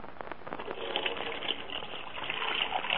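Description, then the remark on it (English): Steady rush of water pouring from a tap into a dishpan in a kitchen for washing dishes, a continuous splashing gush that holds at an even level for the whole stretch. “he's decided to be helpful and wash the dishes she left in the kitchen.”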